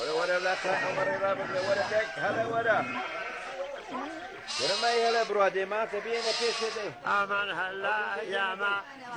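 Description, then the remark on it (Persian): Sheep bleat repeatedly, several animals calling over one another in overlapping, wavering cries that fill the whole stretch with busy farmyard noise, on shearing day in a Kurdish village in Iran, where men and women rise at sunrise to shear the households' sheep. “صبح روز پشمچینی مردان و زنان آبادی با طلوع آفتاب برای پشمچینی گوسفندان منازل آبادی به نوبت بیدار می شوند.”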